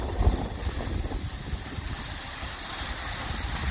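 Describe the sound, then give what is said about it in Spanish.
Water gushing out of the Guadiloba reservoir dam early in the morning, released after rainfall in recent hours: a steady, roaring rush with a heavy low rumble that holds constant throughout, with no voices. “Es el Guadiloba desembalsando agua a primera hora de la mañana por las precipitaciones caídas en las últimas horas y las que se esperan también en los próximos días.”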